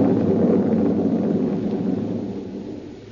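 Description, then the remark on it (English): A long, deep roll of thunder rumbles steadily and fades gradually over a few seconds, fairly loud, with no voices. “There was thunder and lightning around me, too, and up where I was, her voice was a whisper.”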